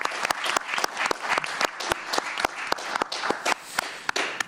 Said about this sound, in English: Before we go to All Things Considered, let's give all of the candidates a nice round of applause.